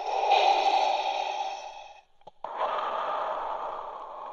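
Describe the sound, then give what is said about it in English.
Heavy, hissing breathing through a scuba regulator, recorded with a microphone inside an aqualung at a scuba shop in San Rafael: one long inhale, a short pause with a faint click, then a long, steady exhale. Loud and mechanical-sounding, with no voices. “stuck a microphone in an aqua lung and just sort of slipped it over his head and started breathing”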